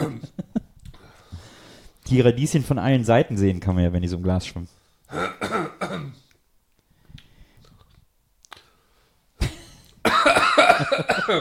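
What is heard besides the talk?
coughing fit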